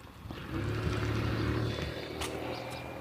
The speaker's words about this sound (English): Get across the street so this car can turn.